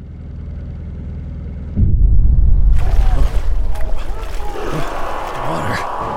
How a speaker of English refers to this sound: The engine. So comforting. Reminds me of Dad.